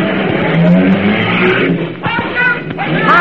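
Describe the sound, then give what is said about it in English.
A car engine, put in first gear with the throttle pulled out all the way, roars loud and rough continuously, its pitch climbing as it revs, then the car surges away. Brief voices come through near the end. “Car in first gear. Brake release. Throttle out all the way. Clutch in.”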